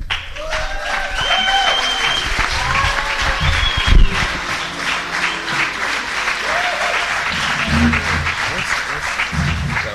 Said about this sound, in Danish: Først og fremmest vil jeg gerne sige tak for, at I har været så engageret i at komme med alle de her klapsalver. Det er sjovere at gå rundt på et plejehjem i hvert fald.